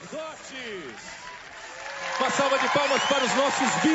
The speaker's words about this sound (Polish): Uma salva de palmas para esse jovem. Niech żyje lud Boży. Oklaski dla młodzieży, która z całego świata tutaj przyjechała. Aplauz dla wszystkich, dla księży.